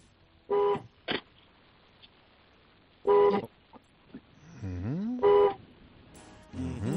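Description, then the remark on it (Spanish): The horn of a 2019 car honks three times in short, loud blasts with pauses between them, mixed with clicks and a rising engine-like whine in the background. “vamos a tocar el claxon tres veces. A ver cómo suena ese coche.”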